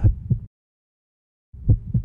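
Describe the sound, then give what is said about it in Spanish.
Low, thudding heartbeat pulses, two beats, then a second of silence, then two more beats, with a soft murmuring whoosh between them, heard as a doctor examines a patient's heart during a medical examination. “Este latido no me gusta para nada.”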